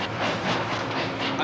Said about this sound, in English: But why are we driving when we could have taken the train? There it is right now.